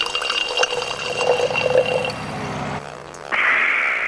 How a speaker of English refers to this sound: So I better pour some club soda.